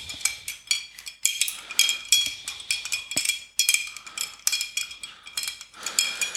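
Ice cubes are stirred in a glass while a rum Old Fashioned cocktail is being made. A steady run of bright clinks and ringing taps repeats several times a second throughout, with no talking.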